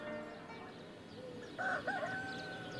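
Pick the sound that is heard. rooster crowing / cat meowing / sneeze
rooster crowing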